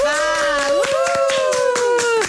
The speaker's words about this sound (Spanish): Yo no sé dónde está, ya ella nos va a decir, porque no pudo llegar hasta la cabina, pero recibimos con un fuerte aplauso hasta ahora en Mujeres W a Yoreli Rincón.